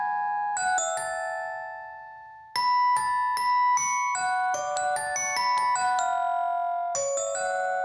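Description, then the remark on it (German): Bright glockenspiel notes ring out in a melodic line, some held and ringing, then a brief lull before a quicker run of struck tones, clear with no voices. “Und beide haben dieses präsente Glockenspiel.”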